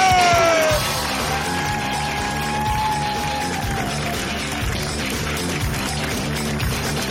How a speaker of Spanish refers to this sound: Y que siga ese aplauso, que siga creciendo, que siga creciendo.